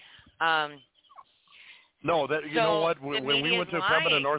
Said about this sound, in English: Can you hear the horns? Yeah, I can hear the horns. The guys are honking.